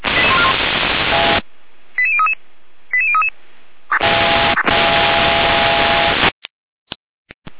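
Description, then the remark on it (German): Bursts of harsh radio static frame two quick, stepped sequences of electronic alert tones over a radio channel from the Gera dispatch centre, alerting units to an overturned car near Neustadt, followed by more hiss and a few sharp clicks as the transmission cuts off. “Leitstelle Gera mit Alarmierung.”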